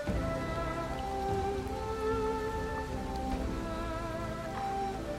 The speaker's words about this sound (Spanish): Contemplas la lluvia cayendo. Observas las luces de los coches, reflejadas en los charcos del asfalto.